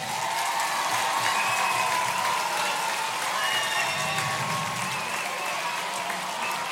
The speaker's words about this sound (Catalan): I tenim que fer un agraïment a los senyors de la distribuïdora de Iwan, que nos han portat la pel·lícula aquí, que estan allà al final, un fort aplaudiment.